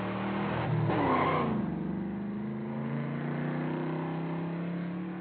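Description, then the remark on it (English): A car peels out with a sharp tire screech near the start, then its engine revs and roars steadily as it speeds away, loud, with no voices. “Finally, you pull off, you allow them to use the restroom somewhere inside or go in to eat, and you get back to the car and you just take off.”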